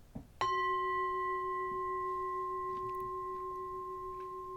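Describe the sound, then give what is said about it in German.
A single gong strike rings out after a soft rustle, leaving a steady, bright metallic tone with clear overtones that hums on, slowly fading, for several seconds. “Auf diesen ersten Augenblick, der vielleicht nicht mal eine einzige Sekunde währte, an dem wir nichts als das Hören des Klangs, des Gongs waren.”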